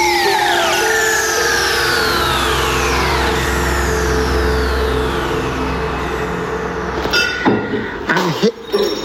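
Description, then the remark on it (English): A glass falls and shatters in a bar in Accrington where a comedy show is being held: a few sharp clinking, crashing bursts near the end after a steady low rumble and sliding, whistling tones. “That is a glass breaking.”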